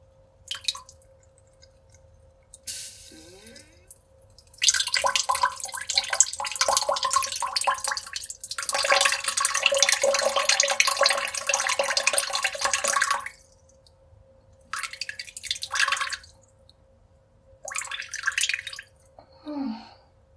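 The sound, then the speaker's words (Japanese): Someone urinates in a steady, hissing stream lasting several seconds, pauses, then releases two shorter spurts. A faint constant hum runs underneath, and no one speaks. “おしっこが出てくれるんじゃないかなと思います。では、していきます。”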